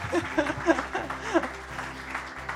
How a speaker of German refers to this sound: Danke nochmal, fetten Applaus, bitte.